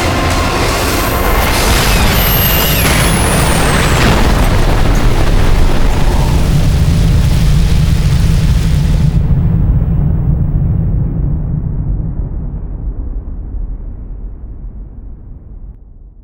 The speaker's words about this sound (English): The dawn came, and the sounds of crashing boulders, exploding flamework, and screams of pain fell away.